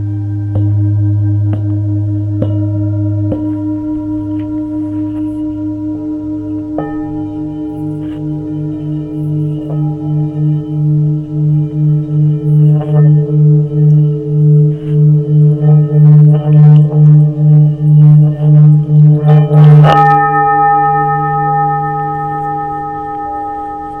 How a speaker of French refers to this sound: Vous vous sentez en harmonie avec votre bol. Toute la base de votre corps vibre, se réchauffe. Grâce aux vibrations de votre bol.